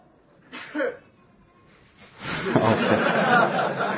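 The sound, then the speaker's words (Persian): A short breathy intake is followed by a sharp, loud sneeze that bursts out and trails into rough, noisy exhaling and muffled laughter. “عافیت بشه. اینم صبرش اومد، یعنی تایید کرد.”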